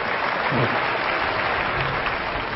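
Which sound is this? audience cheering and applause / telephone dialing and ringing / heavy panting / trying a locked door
audience cheering and applause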